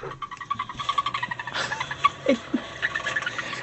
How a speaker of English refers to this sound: This is a mouse that tweets like a bird.